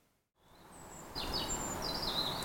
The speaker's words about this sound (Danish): Ja, hvis man hører godt efter, så kan man godt høre, at fuglene er begyndt at kvide. Det er så småt ved at være forår.